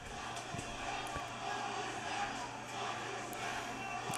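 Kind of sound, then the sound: crowd, wrestling crowd chanting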